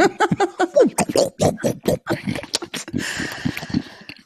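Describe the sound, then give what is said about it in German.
Horses snort and sniff while being fed, a quick run of short, breathy bursts that gives way to a rougher, noisier stretch of snuffling near the end. “Ihr seid zu hören. Pferde füttern.”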